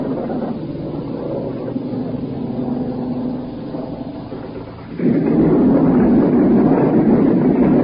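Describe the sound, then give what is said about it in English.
A deep, steady droning rumble of an airplane passing overhead at night, right over the port side of a ship, fairly loud throughout, then swelling abruptly louder about two-thirds of the way in, with no talking. “Here we go again, another plane come over.”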